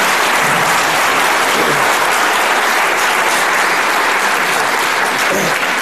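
A crowd claps steadily in sustained, dense applause, loud and even throughout with no pauses or voices standing out.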